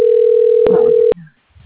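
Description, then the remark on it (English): A telephone ringing tone on a call that then goes to voicemail: one steady, mid-pitched electronic tone holds for about a second, then cuts off with a click, leaving faint low rustling. “It's ringing.”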